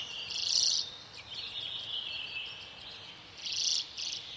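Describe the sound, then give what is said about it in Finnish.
A common redpoll's buzzing, trilling song rings out from a nearby grove in two bursts, at the start and near the end, with a dry continuous whirr between them, against a quiet outdoor background. “Totta tosiaan, siinä surisi pohjoisen punatukkainen harmaaturkki urpiainen.”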